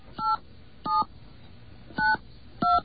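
touch-tone telephone dialing

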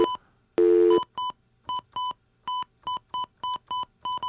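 telephone dialing tones

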